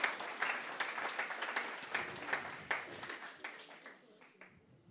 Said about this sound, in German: lass uns ihr einen Applaus geben.